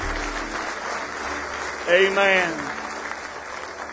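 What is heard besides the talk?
audience applause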